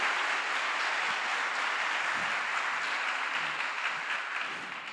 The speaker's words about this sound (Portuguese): Dá uma salva de palmas a Ele, amém? Glória a Deus.